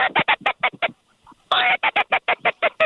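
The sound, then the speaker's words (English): Loud duck-like quacking in two rapid bursts of about a dozen harsh, evenly spaced calls, separated by a short pause, with no talking, heard from a hunting blind on the opening day of teal season. “Yeah, there's a few birds around.”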